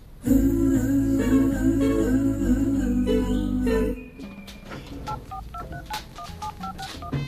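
A loud, steady droning tone cuts off, followed by a quick series of short telephone keypad beeps at varying pitches as a phone call is dialed, tapped out one after another with no one speaking.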